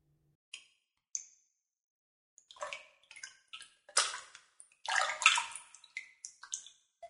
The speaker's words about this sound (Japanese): うん、それじゃあシャワーで流してくれる？